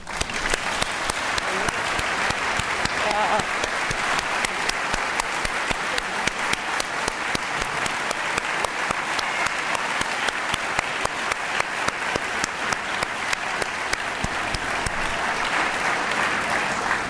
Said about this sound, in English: And I'd like to ask them to stand, and we give them a warm round of applause.